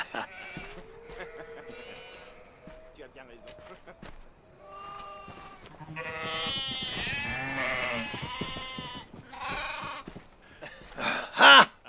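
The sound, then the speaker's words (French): Sheep bleat repeatedly with wavering, harmonic cries, several animals calling, while people speak over and between the bleats. “Reste avec les moutons.”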